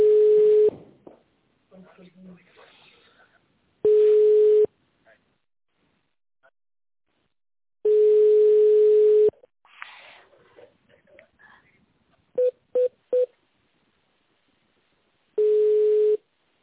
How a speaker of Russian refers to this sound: Видимо, у них там линия занята.